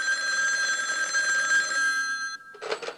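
A telephone bell rings continuously with a bright metallic trill, loud, then stops abruptly before a short burst of sound near the end.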